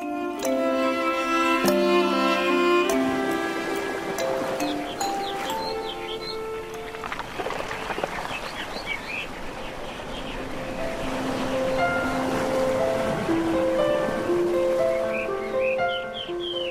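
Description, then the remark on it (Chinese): A steady wash of sea waves runs the whole way through, blended with soft melodic music playing gently on top; no one speaks. “故事要开始咯，首先我们要先去大海。”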